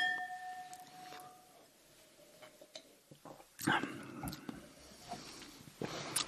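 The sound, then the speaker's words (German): Glasses of red wine clink together in a toast, leaving a bright ringing tone that fades, followed by a few soft knocks and clatters. “Prost. Cheers.”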